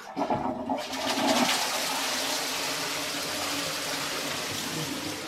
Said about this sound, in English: At the beginning of the house, I think. So in the 1880s as well. And it does not work very well, but I am fond of it, so I don't want to change it. And it's got the original flush here that says with a chain, yes. It says pull. Yes.